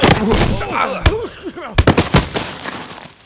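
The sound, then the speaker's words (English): Two people running through a pitch-black passageway beneath a school slam into each other: loud thuds and a scuffling burst of impacts, mixed with strained grunts and cries, then fading clatter. “Who did we run into? I don't know, but I think we knocked them out.”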